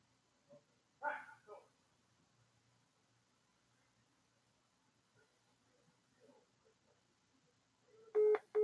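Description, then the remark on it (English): A phone rings loudly with an incoming call near the end, two sharp tonal bursts breaking a mostly quiet stretch that holds only faint, scattered background noises. “getting a fucking phone call.”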